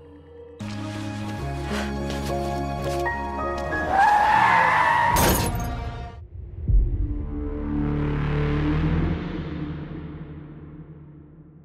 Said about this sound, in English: As Claire walks off happily, Darcy accidentally hits her with her car, sending Claire's body flying several feet and crashing into a windshield.